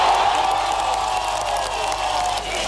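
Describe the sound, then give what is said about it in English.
A large crowd in West Berlin shouts and cheers ecstatically on the day the Berlin Wall opened, a dense, continuous roar of many voices with whoops and some clapping, loud and sustained throughout. “Watching from West Berlin as they've done for several hours, the crowd shout ecstatically, we're coming.”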